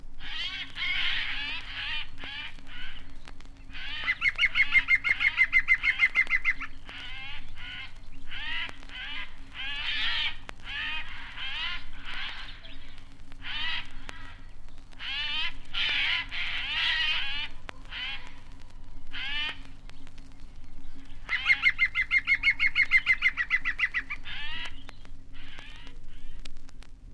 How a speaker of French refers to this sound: Plus loin, la forêt s'épaissit, et ce sont les geais et le pivert qui mènent grand tapage.